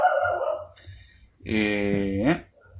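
small dog barking

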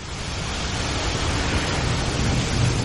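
rushing waterfall

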